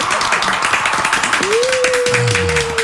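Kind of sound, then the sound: crowd, audience clapping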